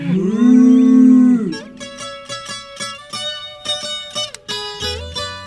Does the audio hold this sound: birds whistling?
no